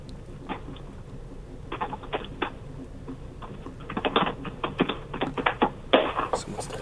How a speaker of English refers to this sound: Can I just ask, who's typing really, really hard? Because holy shit. It's like the old school typewriter over there.